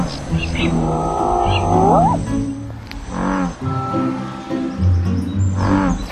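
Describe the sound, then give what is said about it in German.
American bullfrogs calling at night, deep droning bellows repeating over a dense chorus of other croaks and rising nighttime calls, steady throughout. “Und in der Nacht, da brüllt er.”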